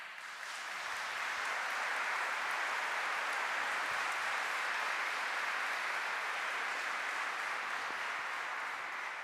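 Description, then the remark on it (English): A crowd applauds steadily for the whole stretch, a dense wash of many hands clapping at an even, sustained loudness with no voices rising above it. “I didn't see one clergyman clapping there.”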